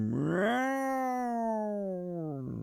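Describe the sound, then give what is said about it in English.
A single drawn-out cat yowl, loud, rising then holding a wavering harmonic wail for over two seconds, like an alley cat caterwauling before a fight. “That's like when the cat's fighting in the back alley, like, oh, I know, dude, yeah.”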